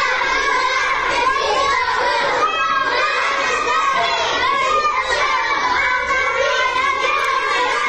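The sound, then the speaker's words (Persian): A group of first-grade children, aged six to seven, chant the protest slogan "Jin, Jiyan, Azadi" together in their classroom in Saqqez, Iran, their high voices loud and continuous, rising and falling in a steady, repetitive rhythm. “بله، با همون لحن کودکانشون دارن شعار میدن ژن ژیان آزادی.”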